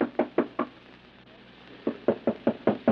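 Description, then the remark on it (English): Someone raps firmly on a door: a quick burst of four knocks, a short pause, then a longer, insistent series of about six more, loud with no voices. “open the door.”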